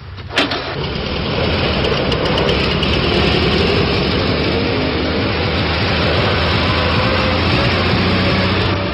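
The engine of cartoonist Cabu's vintage collector car starts with a brief crank and catch, then settles into a steady, loud idle that rumbles on evenly with no talking.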